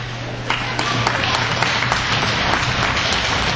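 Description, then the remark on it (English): Steady crowd applause at a hockey game at the Langlade County Fairgrounds, for player Michael Plaza after an injury on the ice: dense, continuous clapping with sharp individual claps popping out, rising slightly after the first half-second and holding at a fairly loud level, with a low hum underneath. “Welcome back to the Langlade County Fairgrounds, where the round of applause you hear is for Michael Plaza.”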